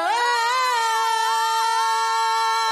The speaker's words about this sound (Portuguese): É, por isso que ele queria ser o último. Ele queria dar esse gritinho dele.